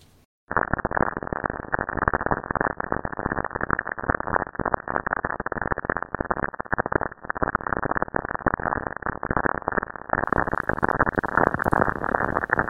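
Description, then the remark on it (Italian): A continuous dense crackling static roar, band-limited and harsh, filling the whole stretch after a brief silent start, with one short dropout midway; sonified radio recording of lightning on Saturn. “E questo che sentite non è il mio lavandino che perde, ma è il suono che fanno i fulmini su Saturno.”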